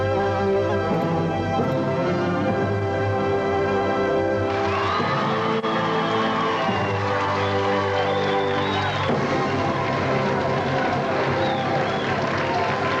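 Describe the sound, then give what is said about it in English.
A loud crowd at a Memphis wrestling show in June 1984 hollers and screams without letup, a dense wall of cheering voices with whoops and scattered claps, swelling and shifting throughout. “Golly, I'll tell you, they got good reason to be hollering and screaming, too, with what we've got coming up today.”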